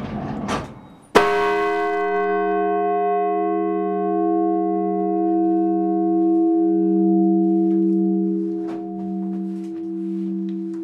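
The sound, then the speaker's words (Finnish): The smaller of two bells is struck once after a brief knock, then rings on with a long, steady hum of layered tones that fades only slowly over about ten seconds. “Se ihan tehokkaasti kumahti.”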